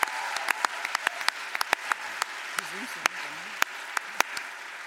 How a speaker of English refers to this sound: One more time, a massive round of applause, please.